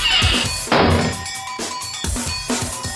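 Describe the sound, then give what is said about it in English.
A door is opened with a run of loud clunks and rattling thuds, sharp knocks landing every half second or so over a steady creaky ring, with no one talking. “It's the wrong door.”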